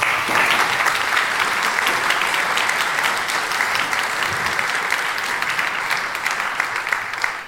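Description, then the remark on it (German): Sustained applause from a large audience, dense and steady for several seconds with many overlapping claps, fading slightly toward the end. “Ein Applaus”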